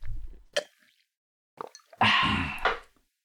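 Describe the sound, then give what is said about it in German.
Someone takes a sip of water: a couple of short wet plops and clicks, then a louder, longer slurping gulp before it fades. No talking. “Nehmen wir gleich nochmal einen Schluck, wenn du schon so redest.”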